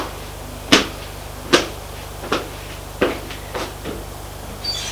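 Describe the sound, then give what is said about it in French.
A woman closes a bedroom door: a series of sharp wooden clacks and latch clicks, the first few loudest, then softer irregular taps, over a faint steady hum with no voices. “Elle ferme la porte de la chambre.”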